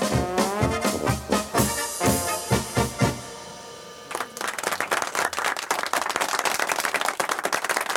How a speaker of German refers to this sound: Tja, meine Damen und Herren, danke für Ihren Applaus. Das waren die fröhlichen Ober-Unter-Zillertaler Schuhplattler mit ihren wunderschönen Tiroler Volkstänzen.